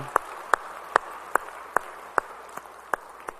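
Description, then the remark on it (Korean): A church audience claps together in unison as applause of glory to the Lord after a praise song: about nine sharp, steady claps at a brisk even beat, roughly two or three per second, over a faint background hum with no talking. “우리 찬양받은 주님께 영광의 박수 올리겠습니다.”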